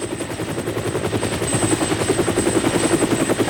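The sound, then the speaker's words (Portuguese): A MiG-55D transport helicopter's rotor thumps in a fast, steady rhythm, loud and continuous, with a thin turbine whine riding above the chopping beat. “Un helicóptero de transporte MiG-55D.”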